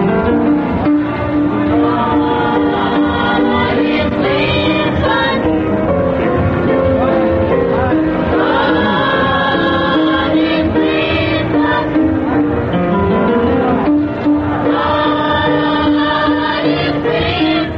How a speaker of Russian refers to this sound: А сейчас вы слышите детский хор воспитанников негритянской религиозной школы.